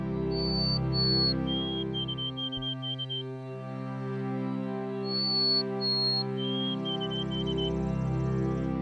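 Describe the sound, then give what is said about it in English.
A white-throated sparrow sings its clear, high whistled song twice: two long sustained notes followed by a string of slightly lower, evenly repeated notes, over a steady low hum. “The birds that appeared in the winter, white-throated sparrows.”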